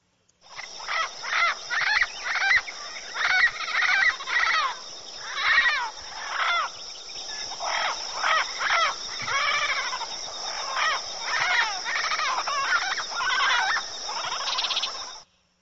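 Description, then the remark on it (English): A yellow-headed Amazon parrot calls continuously for about fifteen seconds, a loud series of squawks, bleats and whistling cries with shifting pitch, no voices alongside. “Let's hear from a parrot, the yellow-headed Amazon parrot.”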